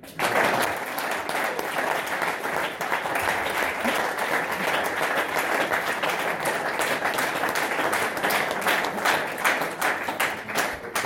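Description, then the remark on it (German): An audience claps loudly and steadily for about eleven seconds in assent to a blessing for two people born in 1955, a dense, continuous roar of many hands with sharp individual claps standing out, sustained at an even level throughout. “Wer das zustimmen kann, und jetzt kommt's, ist eingeladen, jetzt kräftig zu klatschen.”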